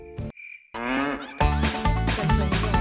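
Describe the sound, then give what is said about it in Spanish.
A cow gives a long, drawn-out, loud moo after a brief tone. Louder, busier sound with rhythmic thumps follows. No one speaks. “Bueno, la vaca, ¿cómo está, señor mexicano?”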